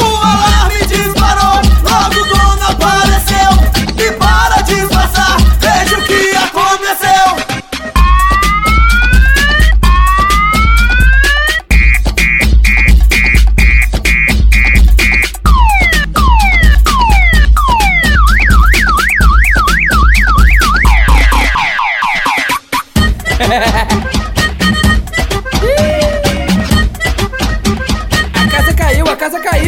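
A car alarm siren wails through its cycle of rising whoops, fast warbles and steady beeping tones, loud, layered over a pounding bass-heavy music beat.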